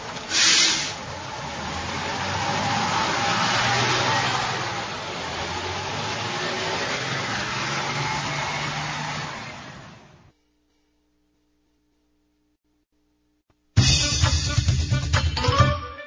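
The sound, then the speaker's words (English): A bus engine rumbles and hisses steadily for about ten seconds, then cuts out into near silence before another loud, rough burst of engine noise starts up near the end. “You can go in a bus.”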